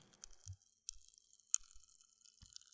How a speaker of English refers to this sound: Yeah, Crystal Crunch Rocks are Pop Rocks. In fact, I have some spare ones here. Can you hear that?